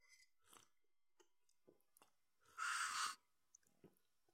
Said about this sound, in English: Pardon me, I had to take a sip of my tasty tea here.